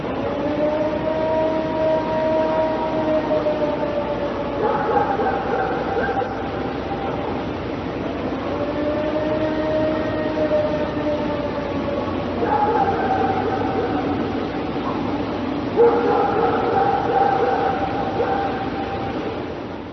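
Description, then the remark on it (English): A loud, drawn-out howl from Ohio of sustained, siren-like tones that hold steady, then jump and shift pitch in steps, resembling an air raid siren wailing continuously with no voices. “And there's a famous howl from Ohio that kind of sounds like an air raid siren.”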